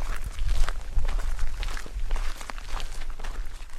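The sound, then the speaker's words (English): Steady footsteps walking at an even pace, each step a soft crunchy thud, repeating about twice a second over a constant low rumble, with no voices. “Sparrow walked beside him.”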